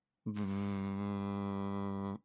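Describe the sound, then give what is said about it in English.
A person vocally imitates a starship warp core hum: one steady, low, buzzing drone held for about two seconds, fairly loud, then cut off abruptly. “Can you do your best warp core noise for me?”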